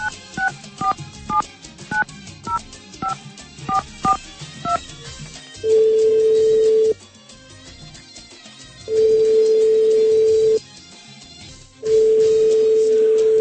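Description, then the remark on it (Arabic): A quick string of touch-tone dialing beeps, then a telephone ringing tone sounds three times in long, steady bursts with pauses between, and no one picks up, as a radio program calls an engineer in Baghdad, Iraq. No voices. “أنه ما حد يجاوب على التليفون، ممكن بالحلقة القادمة نتصل بالمهندس عبد الحميد سعيد.”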